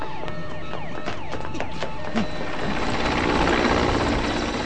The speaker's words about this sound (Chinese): 直升机在空中盘旋着，紧紧跟着张雷小组在丛林狂奔。